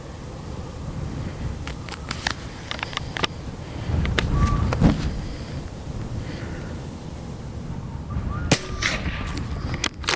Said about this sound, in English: I've reloaded because sometimes I have a deer move at the sound of the shot, and potentially that deer could, in theory, get back up, but it won't.